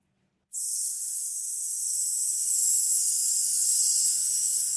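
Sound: slow deep breathing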